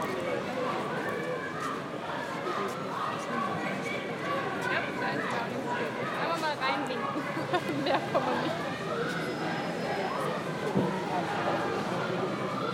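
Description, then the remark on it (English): A noisy crowd of protesters across the road from Downing Street fills the scene with a steady, dense wash of many voices, with scattered shouts rising out of it now and then, continuous and fairly loud throughout. “You can hear some very noisy protesters across the road here.”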